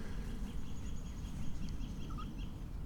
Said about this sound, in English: Or is there something in the creek? No, that was just a bird right there.